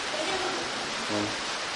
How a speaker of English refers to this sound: It's raining outside.